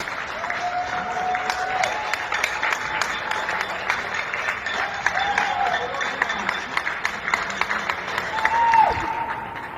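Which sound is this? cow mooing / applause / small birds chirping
applause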